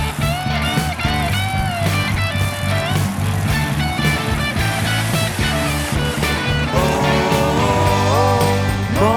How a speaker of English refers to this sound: Oh, monster trucks in the air. Oh, monster trucks in the dirt. Oh, can you hear their engines are roaring so loud? Better cover your ears.